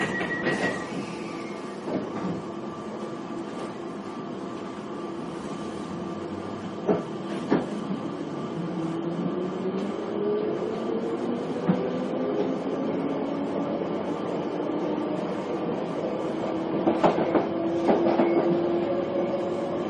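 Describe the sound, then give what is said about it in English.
A London Underground Piccadilly line train to Rayners Lane running between Sudbury Hill and South Harrow stations, heard from inside the carriage: a steady loud rumble with a rising electric motor whine and occasional sharp clacks from the wheels on the track. No one speaks. “This is a Piccadilly line service to Rainers Lane.”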